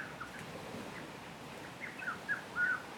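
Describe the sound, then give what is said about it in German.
A few short, bright calls of exotic birds ring out near the end over a steady soft wash of background noise, faint, with no one speaking, on the beach of a small Seychelles island in the Indian Ocean. “Das leise Rascheln der Palmen, die langsam an den Strand rollenden kleinen Wellen, das Singen exotischer Vögel.”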